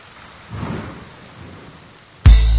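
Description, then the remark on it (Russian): Steady hiss of falling rain with a low, rolling rumble of thunder early on, then a loud burst of music abruptly cuts in near the end. “Дождь заливает серебром улицы и города, он не знает ни о чем.”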